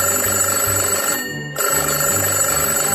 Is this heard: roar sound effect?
no